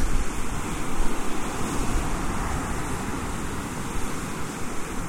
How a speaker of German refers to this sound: wenn vor mir diese Wassermassen toben